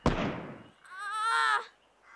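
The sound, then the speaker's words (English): A sudden loud blast with a sharp onset and a rumbling, decaying tail, followed by a brief high, strained vocal cry like a shout. “There was an explosion.”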